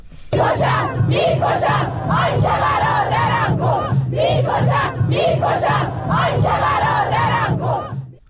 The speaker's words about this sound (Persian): ویدیوها و تصاویر منتشر شده در شبکه‌های اجتماعی نشان می‌دهد روز پنجشنبه در مراسم تشییع پیکر دو شهروندی که بر اثر تیراندازی نیروهای بسیج در همدان کشته شدند، شرکت کنندگان شعارهای علیه نیروهای امنیتی سر دادند.